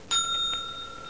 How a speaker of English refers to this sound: When you hear the bell, turn the page.